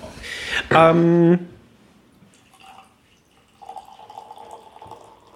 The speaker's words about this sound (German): Das sprudelt schon ganz gut. Es kommt auch relativ flüssig aus der Flasche und auf den Tisch.